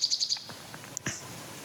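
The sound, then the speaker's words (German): A male nightingale sings: a quick run of four bright, identical high notes, then a short pause and a couple of sharp whistled phrases, with no talking. “Und bei der Nachtigall ist es so, umso intensiver und länger ich hinhöre, umso tiefer geht der Sound.”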